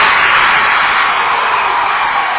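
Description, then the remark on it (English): A loud, steady roar of the Lady Tigers home crowd cheering at a basketball game at Whipple High School after a layup at the buzzer ends the first half, a dense wall of voices that holds at full volume without letting up. “I'm going to wait till the Lady Tiger crowd quiets down for a second.”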